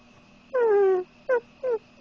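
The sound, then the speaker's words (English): A person imitates a puppy whimpering: one long, high, falling whine followed by two short whimpers, fairly loud, with a fourth just starting at the end. No talking. “Don't make me do the puppy whimpering noises again.”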